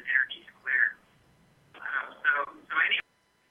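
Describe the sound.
Thin, muffled radio audio heard over a telephone line, with bursts of indistinct voice-like sound separated by a short lull, fairly distant and tinny.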